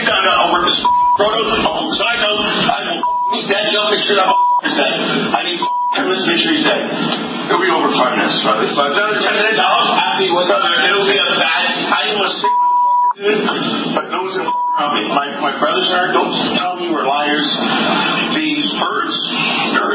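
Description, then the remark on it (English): A man, the mayor of Toronto, talks steadily in a video while heavily intoxicated, as short, flat electronic bleeps repeatedly cut over his words, about half a dozen censor tones, one slightly longer, scattered through the speech. “All right, so that beep, beep, beep, that was the crazy mayor of Toronto.”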